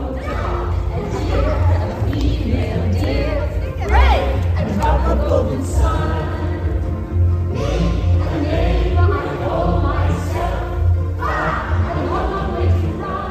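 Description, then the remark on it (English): A large crowd at the AFI Life Achievement Award evening honoring Julie Andrews sings along together to a song, with Andrews joining in, many voices blending into a loud, steady wash of melody that swells and dips over several phrases. “The crowd and Andrews got really into it and sang along because how could you not?”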